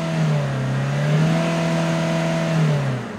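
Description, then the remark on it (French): The engine of a broken-down car revs with a loud, steady droning hum that rises and dips slightly in pitch for a few seconds, with no one speaking. “Putain, la voiture est en panne.”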